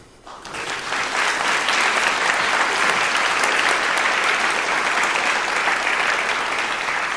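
Sustained audience applause welcoming a speaker at a talk about back pain, a dense crackle of many hands clapping that swells quickly after a quiet start and stays steady and loud for several seconds.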